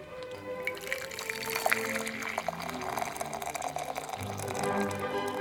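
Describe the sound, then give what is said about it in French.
Tea pours steadily into a cup on waking in the morning, a continuous bright splashing stream whose tone shifts slightly as the cup fills. “Une tasse de thé, au réveil, lui donne le la.”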